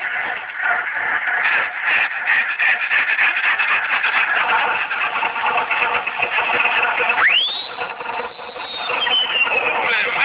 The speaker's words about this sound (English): Listen to that Bearcat motor. Yeah, it sounds like the bear is chasing that cat all around.